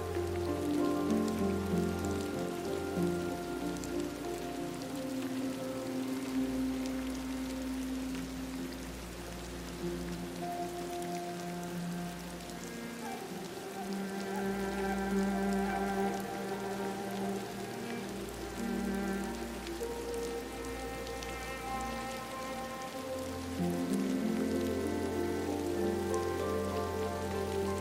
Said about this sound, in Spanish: Aquí abrazas la eterna sabiduría de la lluvia.